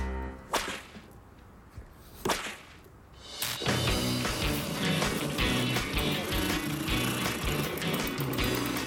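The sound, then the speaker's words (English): A few sharp snaps ring out, then the small motor of a homemade car kicks on during a test and runs loud and rough, a harsh grinding whir that continues steadily to the end with no talking. “We're testing the motor. That motor sounds like a broken down garbage disposal.”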